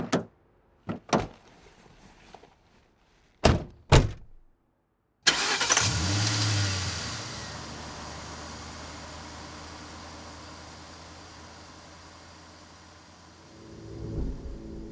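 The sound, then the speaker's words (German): A few sharp car door thuds, then an engine turns over and roars to life, its rumble steadily fading as the car drives away. “schaut dem wegfahrenden Auto nachdenklich hinterher.”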